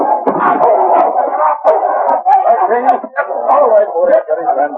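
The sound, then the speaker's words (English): A dog, Lobo, snarls and growls ferociously at a man, breaking into sharp barks and snaps in a continuous, frenzied attack lasting several seconds. “You shouldn't have pulled the gun with my dog watching.”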